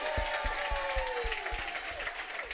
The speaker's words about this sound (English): But before we get started, can I get one more round of applause for the teens so far?